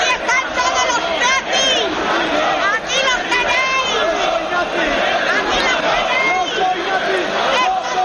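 A loud crowd of football ultras, many hooded and carrying flares, chants and shouts without pause, many rough voices overlapping into a dense, rhythmic roar that holds steady for the whole stretch.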